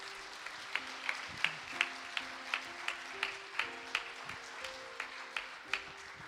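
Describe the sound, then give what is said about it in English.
A crowd applauds steadily for several seconds to thank the Lord, with a sharp beat of claps landing about three times a second over a soft, sustained keyboard melody. No one speaks. “Why don't we give the Lord an applaud, hey?”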